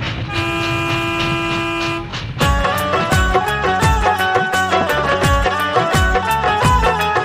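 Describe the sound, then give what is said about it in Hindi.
A train horn sounds one steady, loud, multi-toned blast for about two seconds as a train from Lokmanya Tilak Terminus, Kurla, Bombay arrives at a station, then gives way to a rhythmic, pounding stretch with shifting tones and no voices. “अभी अभी बंबई कुर्ला लोकमान्य तिलक टर्मिनल से आने वाली गाड़ी स्टेशन पे पहुंची है।”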